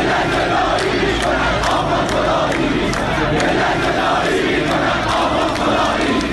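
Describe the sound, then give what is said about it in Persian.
A large crowd of protesters in Iran, in Dehloran, Abadan and Tehran, chants slogans in unison, a dense, loud wall of voices with a rhythmic rise and fall, continuous throughout with no single speaker standing out. “یا این یکی گوش بدیم که مردم توی دهلوران و آبادان و تهران شعار میدادن.”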